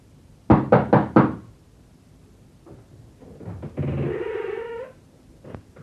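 Four quick, firm knocks on a house door, loud, followed by a cat's drawn-out meow and a faint scrape or thud near the end.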